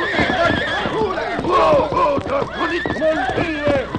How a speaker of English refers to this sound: Immediately, Silver snorted. He reared to his hind legs. The other horses, frightened, jumped and bucked.